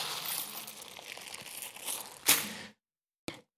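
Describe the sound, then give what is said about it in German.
Steady rustling and crinkling inside a cloth church collection bag used for the offering at a church service, with a sharper crunch near the end, then a pause and one brief final rustle. No voices. “Ja, es klimpert, es raschelt. Da ist noch irgendwas drin.”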